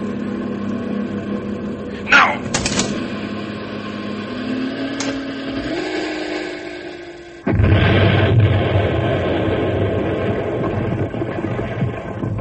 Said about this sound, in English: I've got a mile to go until I hit the straightaway. That town, Landslide. Great Scott, I can't go into town with a runaway truck full of nitro. That deep bend just ahead. I've got to hit the truck for the edge and then jump.